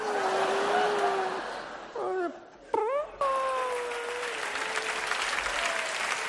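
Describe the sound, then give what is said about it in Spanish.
Steady, dense audience applause for a child's performance fills the whole clip, with a wavering, moaning wail riding over it that dips briefly and swoops upward before the clapping surges back. “Aplausos son de la actuación del niño.”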